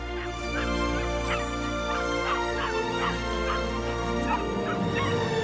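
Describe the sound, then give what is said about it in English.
A rapid series of short, high yips and whimpers from excited puppies bounding up to their parents on a mountain clifftop overlooking a river, repeating steadily at moderate volume over a sustained musical background, with no talking. “The excited puppies bound up to their parents.”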